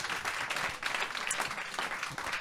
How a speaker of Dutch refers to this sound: Zeker, applaus, ja.